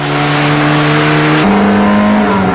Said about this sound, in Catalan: Estos son los nuevos Seat 124D. Amplios, seguros, confortables. Este, el 124D especial, el más potente. Prueba de aceleración de 0 a 100.